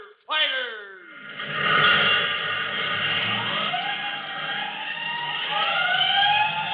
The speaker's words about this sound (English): 5 bell. Stand by all stations. Attention, all districts. A 5-alarm fire. 5 bells. Move in immediately.